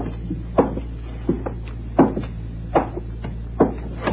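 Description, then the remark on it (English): A door opens amid a series of sharp wooden clunks and clicks, five or so spaced about a second apart, over a low steady hum, with no one speaking. “Oh, is that the door? I think it was.”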